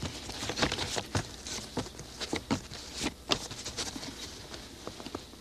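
playing cards being shuffled

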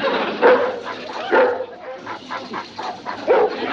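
great Dane barking

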